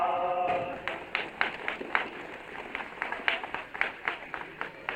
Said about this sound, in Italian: Gli applausi devono essere più grandi, più forti, più vivi. Un bel applauso ai poeti, no?